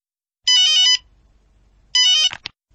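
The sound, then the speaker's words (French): A telephone rings twice, with two bright electronic trilling bursts separated by a short pause. The second ring is cut off by a click as the call is answered. “Au téléphone.”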